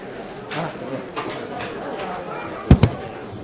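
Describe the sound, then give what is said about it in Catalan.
A door is closed by a person at a public meeting: a sharp double thud, a loud bang followed quickly by a softer knock, over faint murmur and earlier soft rustling. “El Pau tanca la porta i té la paraula el senyor Carlos Miguel León”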